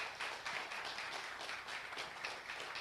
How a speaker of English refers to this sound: Let's give them a clap. They did really well.